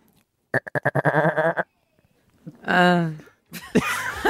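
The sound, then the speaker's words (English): A person imitates a goat, first with a quick stuttering series of bleats, then a longer wavering bleat, ending in a rough, breathy burst; fairly loud, with no talking. “…, when you're ready, give us your goat impression”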